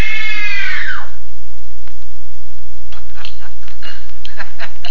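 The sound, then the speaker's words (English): A woman's loud, high-pitched scream of terror rings out for about a second and trails off, leaving faint crackling and scattered ticks in an otherwise quiet background. “Scream for your life!”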